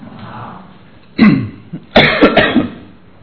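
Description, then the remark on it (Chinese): A short harsh cough bursts out from a person with a persistent, heavy cough, then after a brief pause a rougher cluster of coughs and throat clearing follows, fairly loud, with no talking. “今天应该不是我站在这里做见证，因为我一直在咳嗽，最近昨天咳得很厉害。”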